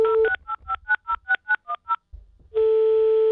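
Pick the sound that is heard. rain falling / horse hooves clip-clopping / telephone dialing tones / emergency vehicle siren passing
telephone dialing tones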